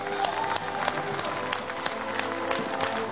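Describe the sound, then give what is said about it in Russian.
An audience applauds steadily, a dense wash of many hands clapping at once that stays at an even, fairly loud level throughout without any voices rising above it, as participants of the TV show Last Hero 3 are introduced. “Итак, Елена Кандуланин, бурный аплодисмент.”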